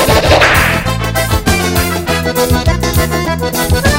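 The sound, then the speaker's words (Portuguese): A sharp, loud whip crack snaps near the start, then a bouncy accordion-driven forró groove carries on with steady bass and percussion. “Eita, forrozinho marreta, chicote.”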